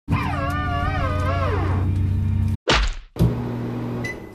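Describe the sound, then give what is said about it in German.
A single loud, sharp fist punch lands with a heavy thwack. It falls between a wavering, warbling tone and a steady mechanical hum that ends in a short beep. “Flugangst, Faustschlag, Mikrowelle.”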